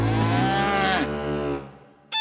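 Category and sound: animal, cow mooing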